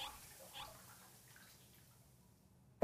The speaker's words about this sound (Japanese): シャワーの湯加減はどう？熱くない？